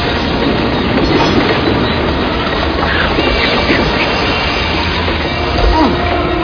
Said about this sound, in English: We're going way too fast! Nobody's driving this train!